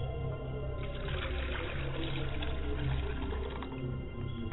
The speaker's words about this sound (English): And as I prepare to pour libations to the east and west, I pour libation.